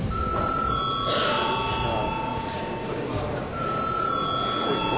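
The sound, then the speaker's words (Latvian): A continuous electric bell rings steadily for several seconds during a parliament session to call a break, loud and sustained, with a faint murmur of background chatter beneath it. “turpināsim pēc pārtraukuma, jo ir pienācis laiks pārtraukumam. Lūdzu, zvanu.”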